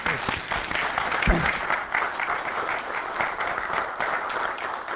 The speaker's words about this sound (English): I'd like it when people clap for me, but let's try and do this again. I'd like to see if we can all clap in unison.